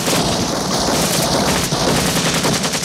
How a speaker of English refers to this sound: The squad exchanges fire with the men on the boat, one of whom is blown into the water.